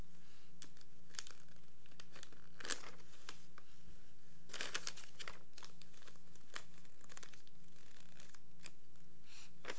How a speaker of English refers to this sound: What are you doing? Turning the pages? Here.